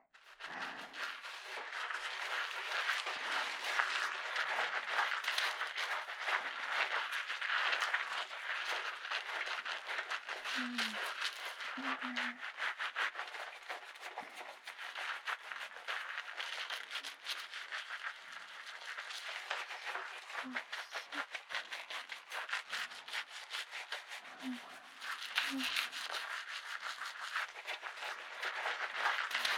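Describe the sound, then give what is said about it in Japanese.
Soft, steady rubbing of foamy lather from a high-performance shampoo with added treatment, made for both humans and beasts, a dense crackling fizz with wet squishy texture that continues unbroken for about half a minute, with no talking. “さあ、このふわふわと擦れる音にたっぷり癒されるです。”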